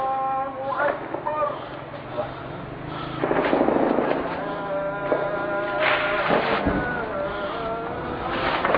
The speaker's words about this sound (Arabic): باب عمر 13/2/2012 القصف مستمر على حي باب عمر.